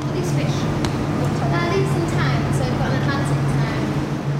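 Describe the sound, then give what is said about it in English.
Noisy background at Sea Life in London: a constant low droning hum fills the whole stretch, with indistinct crowd voices chattering faintly over it and no pauses or quiet moments. “Here's a bit of audio from sea life in London with a lot of background noise.”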